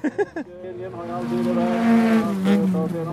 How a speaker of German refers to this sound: Mit dieser Schrottkiste, die klingt wie ein aufgebohrter Rasenmäher, fährt Johansson Autorennen. Folk Races, um genau zu sein, eine schwedische Rennserie, in der die FahrerInnen mit alten Autos auf Schotterpisten gegeneinander fahren.